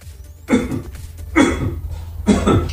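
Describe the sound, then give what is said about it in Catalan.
Three loud, harsh coughs in a row, each a broad burst about a second apart, over a low steady hum, at the start of an Italian song about the coronavirus. “acabem la setmana dedicada a les cançons sobre el coronavirus amb uns italians, en fi, amb uns italians que, tot i la situació que viu el país, tenen sentit de l'humor i creen una simpàtica cançó que, per cert, comença amb molta tos.”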